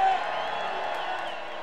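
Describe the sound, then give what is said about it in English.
A concert audience screams and cheers at a performer's call, in one continuous, dense roar of high-pitched voices that holds steady for under two seconds and eases slightly toward the end. “Let me hear you scream.”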